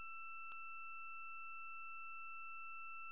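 A conference-call joining tone: a quiet, steady two-pitch electronic beep held unbroken for about three seconds, with a single short click just after it begins. No one speaks.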